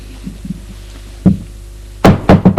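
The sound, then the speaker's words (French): Knocking on a door: a few faint soft taps, then one solid knock, and after a short pause a quick burst of four sharp, loud raps. “On la frappe à la porte.”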